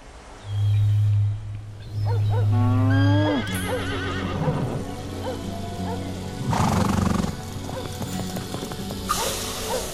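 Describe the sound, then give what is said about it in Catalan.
A cow moos twice, long, deep and loud. Fainter farm-animal calls and rustling follow in the background. “Había una vez, hace mucho tiempo, una vaca.”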